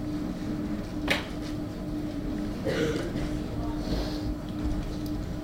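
door being closed

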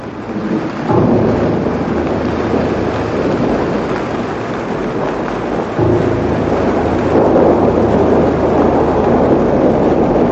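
rain

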